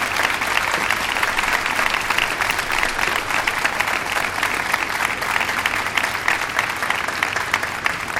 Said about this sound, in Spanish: Y para ellos pediría un fuerte aplauso a modo de recibimiento.